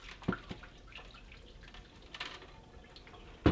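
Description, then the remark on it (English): Two short, sharp splashes of water, one near the start and one at the end, with faint trickling and dripping sounds in between. No one speaks. “You're not throwing water, are you?”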